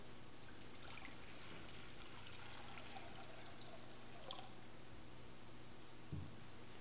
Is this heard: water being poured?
yes